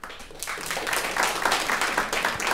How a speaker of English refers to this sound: how many of you could pal around with George W. Bush, given all that he has done that you find awful? Applaud if you could. Applaud if you couldn't.